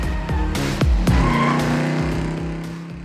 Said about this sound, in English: And of course, South Beach, that iconic shoreline of newly built skyscrapers reaching into the sky, with drop-top convertibles revving up and down Ocean Drive.